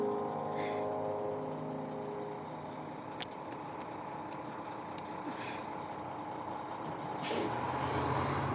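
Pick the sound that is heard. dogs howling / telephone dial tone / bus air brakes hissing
bus air brakes hissing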